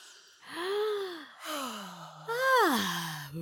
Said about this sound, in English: This is your weekly reminder to take a deep breath.